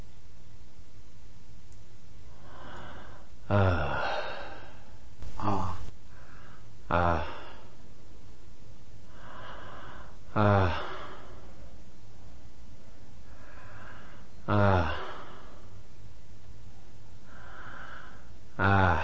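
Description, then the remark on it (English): Deliberate biphasic breathing being demonstrated: repeated inhales and exhales, several ending in sharp snorting bursts, recurring every few seconds with softer breaths in between and no talking. “and hopefully, by paying attention to it, you can limit the biphasic nature of your own breathing.”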